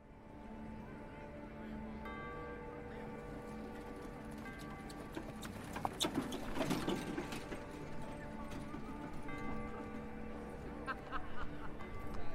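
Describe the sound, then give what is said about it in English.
A horse-drawn wagon rolls down a dusty street in downtown Chicago with a steady clip-clop of hooves and creaking wood, growing fuller and busier midway through, with faint ambient murmur in the background. “Church had just let out when a horse-drawn wagon creaked and clopped down a dusty street in downtown Chicago.”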